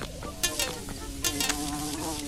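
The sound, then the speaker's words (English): A steady insect buzz drones on without a break, with wavering harmonic tones and a few brief bright bursts layered over it, like wasps hovering in a video game. “No way, wasps.”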